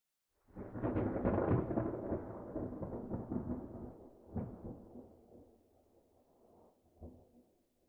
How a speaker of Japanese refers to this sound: さっき説明があったと思うけど、雷の音がしたら寸止めをするの。こんな感じの音。